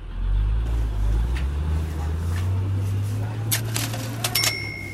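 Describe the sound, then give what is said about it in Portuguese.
Heavy truck engines rumble low and steady as trucks roll past, one after another, with a continuous deep drone and a few faint metallic clinks and hisses rising near the end. “Veio o primeiro caminhão, depois outro e depois muitos outros.”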